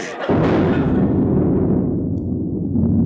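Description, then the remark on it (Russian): A sudden heavy boom of cannon fire bursts in, then rolls on as a loud, sustained low rumble that fills the rest of the moment, its crackling upper edge slowly fading. “Народ идет на приступ! Гвардейцы изменили! Просперо! У них пушки!”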